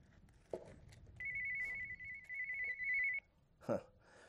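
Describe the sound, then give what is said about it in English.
Someone's cell phone, left up front and used as a paperweight, rings with a steady, high electronic tone lasting about two seconds, loud, framed by a couple of brief knocks or clatters before and after, with no talking. “Got somebody's cell phone up here I've been using as a paperweight. That must have been my telephone call from God.”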